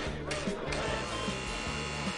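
A doorbell buzzer is held down as someone rings at the door: a loud, steady electric buzzing drones on without a break for a couple of seconds, a harsh low hum with a faint pulsing pattern.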